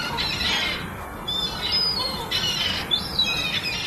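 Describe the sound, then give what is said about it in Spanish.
Seagulls squawk repeatedly in the park of La Urgisa in Pumarín, eating food a woman throws to them early in the morning. Their harsh calls overlap over a steady rumble of background noise. “Son pájaros, concretamente gaviotas en el parque de la Urgisa en Pumarín.”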